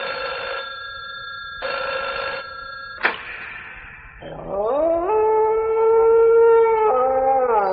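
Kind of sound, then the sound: household object, telephone ringing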